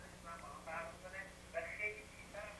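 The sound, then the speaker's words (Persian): A caller's television plays in the background over a phone line during a live call-in show, its muffled, tinny voices coming through in short bursts at a steady low volume with a faint hum underneath. “خواهش میکنم تلویزیون تو صداشو کم کنی.”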